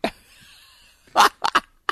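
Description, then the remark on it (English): An odd, loud sneeze: one sharp noisy burst after a brief faint lead-in, then two quicker choppy bursts and a final short puff, with no talking. “I may have just sneezed my way into a six seed, baby.”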